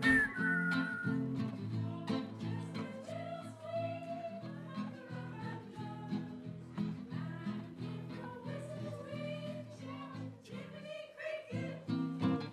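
A person whistles a bright, lilting melody over steady instrumental accompaniment, the whistled notes clear, rising and falling in short phrases without any talking.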